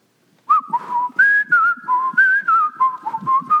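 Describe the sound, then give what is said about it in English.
A person whistles a lively, melodic tune, the clear pitched notes rising and falling in quick phrases with short breaths between them, with no one talking. “He'd always be whistling, you know.”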